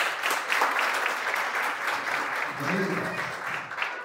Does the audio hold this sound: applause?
yes